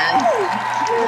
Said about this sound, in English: Yes! Where's that clapping sound? Yeah.